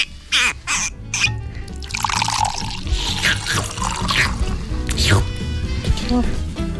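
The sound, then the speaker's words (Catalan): Liquid splashes and trickles as cava is poured into glasses for a toast, a fizzy gurgling pour, with people talking alongside it. “Ara, com totes les estrenes que s'inauguren, caldria posar una mica de cava.”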